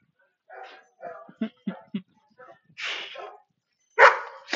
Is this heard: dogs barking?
yes